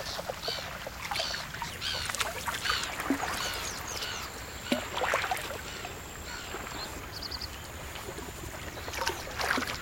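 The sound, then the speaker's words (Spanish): A black-headed gull calls harshly a few times as it passes overhead, above steady lapping water and boat noise, with a thin continuous insect-like trill in the background. “Nos sobrevuela una gaviota reidora.”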